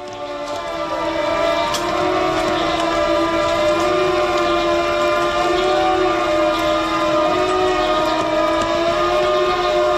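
A loud, steady siren wails continuously, a sustained harmonic tone with a slight waver in pitch that holds throughout without breaks or speech. It sounds at 8:41 on 3 May in memory of the 10 people killed at the Vladislav Ribnikar school, one year after the tragedy.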